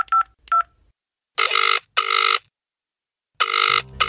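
Two quick dialing beeps, then a phone's ringing tone as a woman returns missed calls, sounding in three short buzzy bursts with pauses between, clear and fairly loud, ending with a brief click as the call connects.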